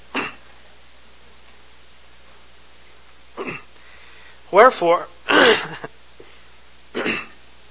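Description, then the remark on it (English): A person with a frog in their throat clears it several times in short, gravelly bursts: a quick one, a pause, then a tighter cluster of rougher clears, with quiet in between. “Now I can't get my frog out of my throat.”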